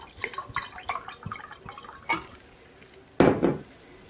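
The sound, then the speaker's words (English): Clinks and small liquid drips against glass, then a short, louder gush of non-alcoholic wine poured into a glass near the end; no one speaks. “Oh, I should have poured that for you.”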